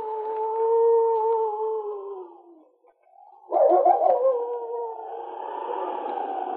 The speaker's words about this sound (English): Being chained was an experience that Blaze hated. It seemed to bring his wolf nature closer to the surface, and day and night he would lift his head to the skies and howl.